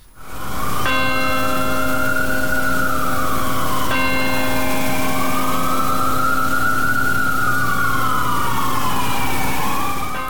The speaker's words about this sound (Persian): در 22مین سالگرد حملات 11 سپتامبر بامداد دوشنبه به وقت محلی، ناقوس امید در مقابل کلیسای پل مقدس در نیویورک به صدا درآمد تا خاطره کشته شدگان این حملات گرامی داشته شود.